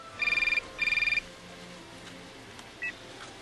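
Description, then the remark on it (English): A telephone rings twice in quick warbling bursts, each ring a rapid train of electronic pulses, followed by a short quiet stretch with a single faint beep near the end, at the start of a recorded phone call being played back. “Well, why don't we play back that phone call that you just described?”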